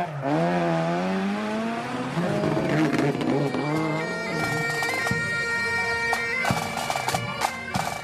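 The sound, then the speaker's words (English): Rally cars on a rally stage in Ireland roar past with rising, revving engine tones that climb in pitch, followed by sustained high engine whine and sharp bangs and pops from gear changes, loud throughout with no speech. “Still, the sound of a cloth squeaking on a windscreen is not the sound you'd expect to hear in rallying in Ireland. This is more of what you'd expect.”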